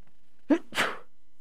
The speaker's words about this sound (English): Bless me, a little sneeze there.